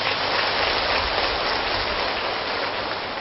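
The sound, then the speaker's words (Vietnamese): Loud, sustained applause from a large audience at the Buddhist program Hoa Mặt Trời, a dense steady wash of clapping that holds at an even level for about three seconds with no voices over it. “Và một lần nữa xin quý vị hãy cho một tràng pháo tay thật lớn.”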